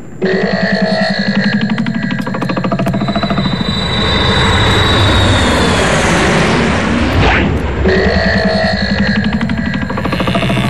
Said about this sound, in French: tu fais chauffer l'avion, s'il te plaît.